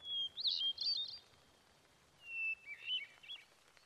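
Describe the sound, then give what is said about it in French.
A song thrush sings two short, bright phrases of quick whistled notes separated by a pause, clear against a quiet outdoor vegetable garden background with no talking. “Car c'est l'outil d'un oiseau particulier, la grive musicienne.”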